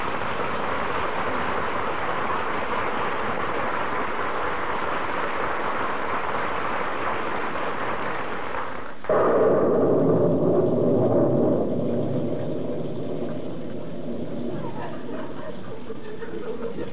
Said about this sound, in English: You shouldn't ought to stand out in the rain like this.